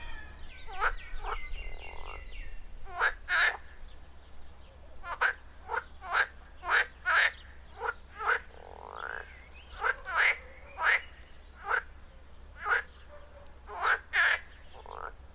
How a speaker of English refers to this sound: There's also a really green pond, a water feature with frogs in it, and I'm looking at one of those frogs swimming along as I speak.